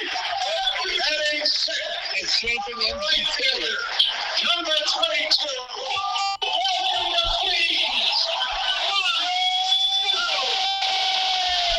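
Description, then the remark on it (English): A big stadium crowd chants "MVP" for Juan Soto in a loud, dense roar of many voices that carries steadily for about twelve seconds, with individual shouts and whistles poking through. “The crowd was chanting MVP for Juan Soto.”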